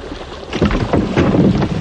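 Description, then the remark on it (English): A boat is run aground on sand in fog: a rough, grinding hull scrape swells up after a quiet start, mixed with splashing water and gusty wind noise, fairly loud, with no voices. “I'm running her aground as far as I dare.”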